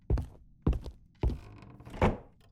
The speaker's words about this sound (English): Close the door. All the way, please. Actually, let me get that.